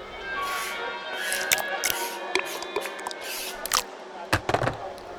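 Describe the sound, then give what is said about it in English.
Wet, squishy airplane dinner is poured and slopped onto lead weights inside a suitcase, with a steady mushy rustle, several soft splats, and a few sharper clatters toward the end. “Open your aeroplane dinner and pour it on top of the lead weights inside the suitcase.”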